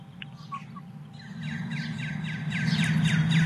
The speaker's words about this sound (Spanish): escuche usted a los pájaros cómo iban integrándose, iban llegando a sus nidos en los árboles. Escuche usted más que mi voz, la voz de fondo, el trinar de los pajarillos. Escuchemos.